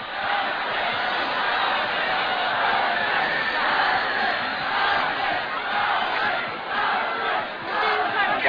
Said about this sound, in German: Im Rhythmus brüllen die Zuschauer die Farben, auf deren Sieg man wettet. Bis zum letzten Augenblick werden die Einsätze erhöht.